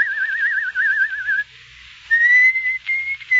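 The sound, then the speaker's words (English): A caged bird at a small village inn near the Austrian border sings a clear, high whistled tune: a wavering, trilled phrase, a short pause, then longer steady notes that rise slightly, heard alone with no voices. “You don't like the bird's song, sir?”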